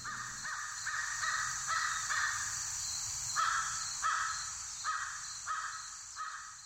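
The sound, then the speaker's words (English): American crows caw repeatedly in a steady series of harsh, evenly spaced calls, clear over a soft background of insects, with no talking. “And even the American crows sounded like June.”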